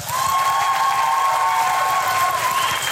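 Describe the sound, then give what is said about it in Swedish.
A crowd applauds steadily for about three seconds, dense and loud from start to finish, with a thin sustained whistle-like tone running through the clapping. “Låt oss alla applådera igång”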